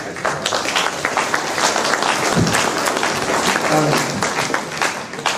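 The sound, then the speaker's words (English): An audience applauds steadily for the whole stretch, a dense, even wash of many hands clapping at once, with a faint murmur of voices showing through in a couple of spots. “We are all very grateful, and we applaud you for coming and spending your time with us.”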